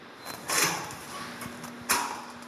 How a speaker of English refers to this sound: With the swipe of a car key that opens a heavy security door, I'm going to the front line of science in California's decades-long war against air pollution.